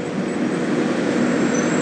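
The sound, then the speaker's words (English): A fire truck rumbles along in road traffic, a steady, fairly loud engine and road roar that holds constant throughout without a siren or voices. “Easiest fire truck pursuit ever.”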